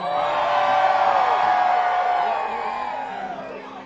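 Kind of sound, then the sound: crowd, audience screaming and cheering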